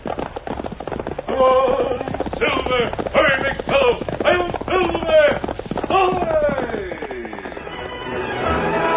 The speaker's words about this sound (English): From out of the past come the thundering hoofbeats of the great horse Silver. The Lone Ranger rides again.